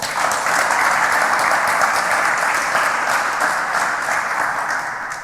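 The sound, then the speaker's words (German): Sustained applause from an audience thanking the Farbwerk for providing a barrier-free room and use of the courtyard, a dense steady patter of many hands clapping at a loud, even level for several seconds before easing slightly toward the end. “Dafür bitte auch einen ganz großen Applaus und Dank.”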